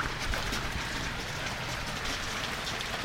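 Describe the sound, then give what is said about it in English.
Steady rain patters down on a surface, a dense, even hiss of drops that holds without pause for the whole stretch, moderately loud, with no voices. “Yes, the rain started.”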